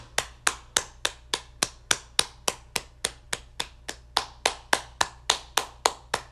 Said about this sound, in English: Clap. Woo! Yeah.